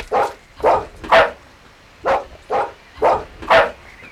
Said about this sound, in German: Und bringt mal euren Hund zur Ruhe. Es reicht jetzt mit dem Begrüßungsgebell.